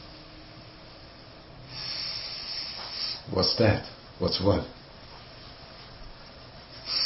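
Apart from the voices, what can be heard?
breathing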